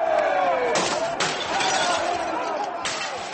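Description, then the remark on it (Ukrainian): Several sharp crashes of breaking glass as protesters smash windows of the Royal Bank of Scotland building in the City of London, over a continuous roar of crowd noise, with shouting voices in the background throughout. “Протестуючі розбили вікна в будинку та вступили в сутички з поліцією.”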